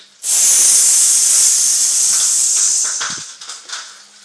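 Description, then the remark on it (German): A voice imitates fish sticks sizzling in a pan: one loud, sustained, airy hiss held for about three seconds, then trailing off into shorter breathy bursts. “ich mag ja Fischstäbchen. Die tust du in die Pfanne und dann macht's.”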